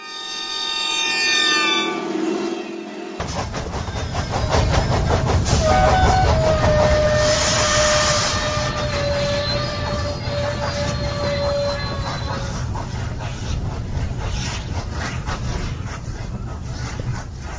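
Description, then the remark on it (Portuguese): A train to Suzhou, China runs steadily on rails, a loud rumble with rhythmic clacking and a long metallic squeal of wheels, sustained for over ten seconds with no voices. “Bem, mas vamos apanhar o trem até Suzhou e ficar então a conhecer essas paisagens descritas pelo escritor Ye Shentao.”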